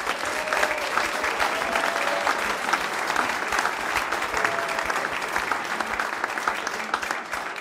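A large audience claps steadily and loudly for a music group, a dense, continuous wash of applause that holds its level for the whole stretch without dropping off.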